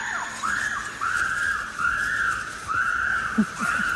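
Chimpanzees screaming, a run of about four shrill, sustained cries that each rise and fall in pitch, following one another steadily, with a few short lower calls near the end.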